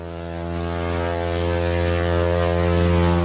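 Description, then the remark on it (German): A single sustained ship horn blast sounded on a boat during a short excursion, a deep, steady, buzzing tone that holds loud and unbroken for the whole stretch, swelling slightly toward the end, with no voices. “Zack, sitzen wir auf dem Boot und machen tatsächlich Möp, einen kleinen Ausflug.”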